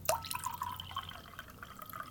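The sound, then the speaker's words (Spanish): Water is poured into three glasses holding different amounts of water, splashing and trickling, with bright dripping and ringing tones over a steady liquid patter, fairly quiet, no voices. “Uy, cuánta agua que cae.”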